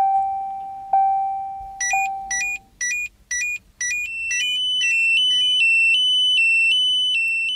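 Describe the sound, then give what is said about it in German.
Electronic warning beeps from a technical device: a steady lower tone gives way to about six short, rapid high-pitched bleeps, then sustained shrill tones that step in pitch. Loud and clear, with no voices. “Und deswegen ist zum Beispiel auch die Signalgestaltung mit vielen technischen piependen Geräten, wo es also sehr viele verschiedene Signale gibt, ist es schon eine ziemliche Herausforderung.”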